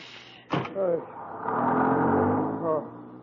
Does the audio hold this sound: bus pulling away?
yes